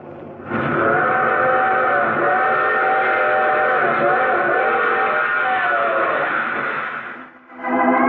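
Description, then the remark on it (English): A train's whistle blows one long, loud, steady chord for about seven seconds over a rumbling train, then dips briefly before sounding again at the end. “I take this same train each week at this time.”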